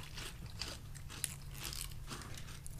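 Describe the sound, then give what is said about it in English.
Crunching of dry cereal being chewed without milk, a steady series of crisp, crackly bites with a low hum underneath and no talking. “Crunching is happening.”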